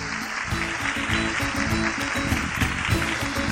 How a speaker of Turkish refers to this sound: Onları kocaman bir alkışlayalım bakalım, hadi bakalım.